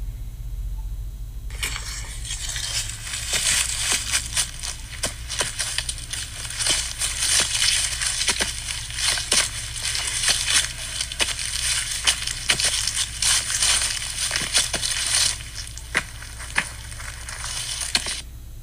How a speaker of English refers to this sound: hear the apple crunching? Oh, apple crunching. Okay, let's see if this is audible.